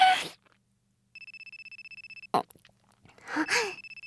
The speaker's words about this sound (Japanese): 電話かかってきちゃった。